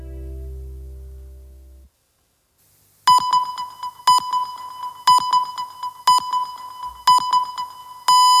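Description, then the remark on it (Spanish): A brief low tone fades to silence, then the hourly time signal of Spain's COPE radio marking 5 o'clock (4 in the Canary Islands): six sharp, evenly spaced electronic beeps once per second, loud and clear, the final pip held slightly longer. “Dieron las 5, las 4 en Canarias.”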